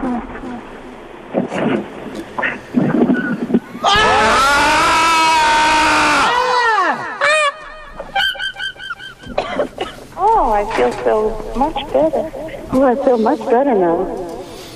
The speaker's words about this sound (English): On three, I'll ask the engineer to lower all of the other inputs, and we can perhaps simultaneously scream. All right. One, two.